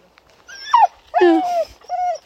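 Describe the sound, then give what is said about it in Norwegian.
A dog named Bisha whimpers at a cat in three high, whiny bursts, the middle one longest and loudest, with pitch sliding downward in each cry. No one speaks. “Bisha, tror han er venn med katter.”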